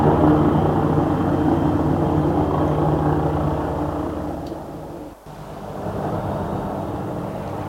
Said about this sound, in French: Son avion atterrit dans une ville, une grande ville, ça peut être Calcutta.